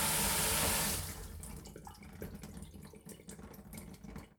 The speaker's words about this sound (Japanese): こんなもんかな。じゃあシャワー止めるよ。